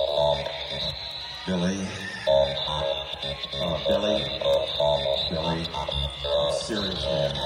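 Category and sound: signal or alarm, electronic beeping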